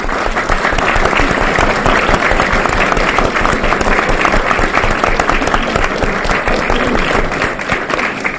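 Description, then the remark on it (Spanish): A large audience claps steadily and loudly for over eight seconds in tribute to the late Juan de Roche, known as Juan Tinaja, a dense, sustained wash of many hands with no voices standing out. “Y bueno, quiero que demos un fuerte aplauso porque falleció con 62 años.”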